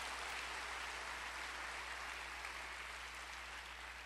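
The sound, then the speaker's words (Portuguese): A crowd claps steadily and densely in applause to the Lord, a continuous wash of many hands applauding together with no pauses, even in loudness throughout. “Você pode dar um aplauso ao Senhor?”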